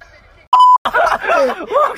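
A short, steady electronic censor bleep at a single mid pitch lasts about a quarter second, muting a word played by a phone, followed right away by loud snickering and chuckling laughter.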